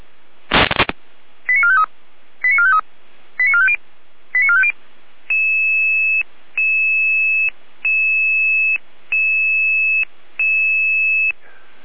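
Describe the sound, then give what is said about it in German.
Radio alerting tones for emergency dispatch from the Jena control centre in Germany, alerting Red Cross Saalfeld units: a short static burst, four quick rising sequences of stepped tones, then six longer, evenly spaced two-note beeps, loud and clear with no voices. “Jena weiter mit Alarmierung.”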